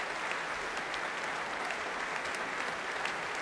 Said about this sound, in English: Warm applause here from the audience at the Royal Albert Hall. I think we may have just witnessed the start of a real Ivan Avello revival.